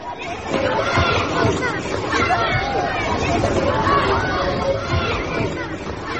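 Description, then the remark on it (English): A noisy crowd of schoolchildren chattering all at once, a dense, steady babble of overlapping young voices with no single speaker standing out, loud throughout. “God, listen to them.”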